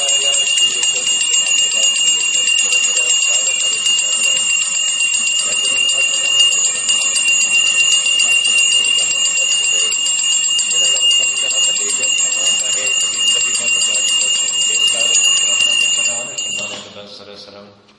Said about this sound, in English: Is that coming from my bell? Oh.